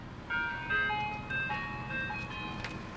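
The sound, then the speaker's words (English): A tinkly ice cream truck jingle plays a bright, repeating melody over a low engine rumble, moderately loud and steady as the truck rolls by at sunset; no one speaks. “There's a sunset, they're driving off, and an ice cream truck rolls by.”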